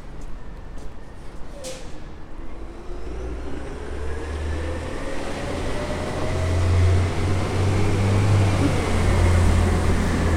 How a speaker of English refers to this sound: Must be trash day in Portland. The trucks are out and about.